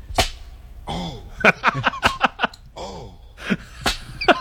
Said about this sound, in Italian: Ma chi è? … che si fa frustare? Senti che voce calda.